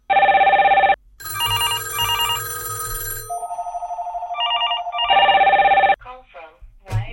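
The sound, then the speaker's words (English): Standard AT&T cordless landline phones ring in loud electronic bursts, several handsets chiming with overlapping warbling tones and sustained beeps for about six seconds, followed by faint rustling. “So what you just heard was the standard AT&T wireless landline phones ringing.”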